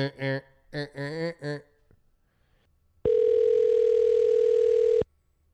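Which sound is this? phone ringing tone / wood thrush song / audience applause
phone ringing tone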